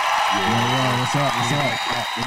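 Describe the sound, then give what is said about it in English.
Steady clapping forms a dense, crackly wash throughout, fairly loud, with a voice talking over it the whole time. “Man, stop clapping.”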